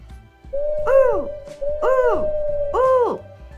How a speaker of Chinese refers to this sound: 树上的猫头鹰在叫耶。猫头鹰说着，该回家咯，该回家咯。